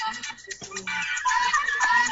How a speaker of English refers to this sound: You know, hey, listen to my dad's ringtone.